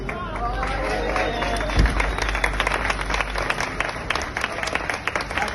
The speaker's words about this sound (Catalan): Són els aplaudiments que han rebut el caporal de la policia local